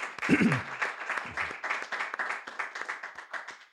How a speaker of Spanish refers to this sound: Vamos a dar fuertes palmas al Señor.